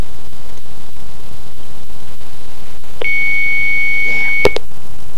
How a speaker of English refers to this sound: Well, I'm not sure what's up with that number now, because it's only ringing once. But, that was the Haitian hotline, again.